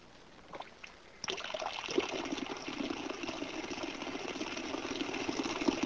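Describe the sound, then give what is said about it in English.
After a second of near silence, ordinary water starts streaming from a nozzle in a high-voltage generator demonstration: a steady hiss and trickle of grounded jets that break into drops a short distance from the nozzle, continuing evenly to the end, with no talking. “At a short distance from the nozzle, the jets break into drops, which we see here in slow motion.”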